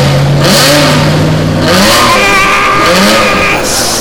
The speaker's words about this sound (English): Fans, I am not sure what's going on, but it sounds like someone is revving up a motor from somewhere within this building and interrupting … to boot!